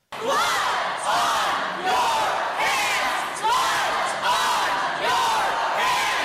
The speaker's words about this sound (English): Now, the bill passed despite the fact it was largely opposed by teachers and parents who protested from the gallery shouting, "Blood on your hands."